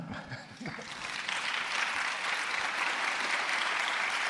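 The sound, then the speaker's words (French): Audience applause swells after a brief moment of faint voices, becoming a dense, steady wash of many hands clapping that stays loud and even to the end. “Donc il est temps de vous applaudir déjà.”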